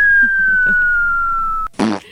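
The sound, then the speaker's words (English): A long, steady whistling tone that slowly slides lower in pitch stops abruptly and is followed by a short, loud, raspy fart noise with a buzzing low rumble. “Fart sounds will never not be funny.”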